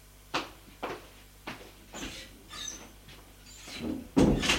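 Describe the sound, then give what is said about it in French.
A door across a Louis XV-style salon used as a waiting room opens: a few sharp clicks and knocks of the latch and handle, a thin squeaky creak as it swings, then a louder, heavier thump at the end. No one speaks. “Une porte en face s'est ouverte et entre un homme, grand, mince, cheveux châtains, costume gris, visage sympathique.”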